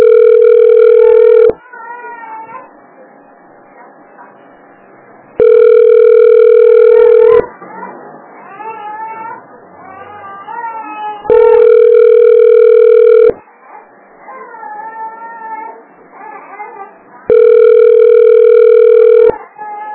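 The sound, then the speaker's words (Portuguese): A phone line rings while waiting for an answer, on a call to check on a child's medical appointment: four loud, steady two-second ringback tones at regular intervals, with quieter voices talking in the gaps between them. “Pra atender esse telefone é uma dificuldade, né?”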